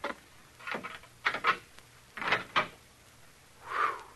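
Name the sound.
old door being opened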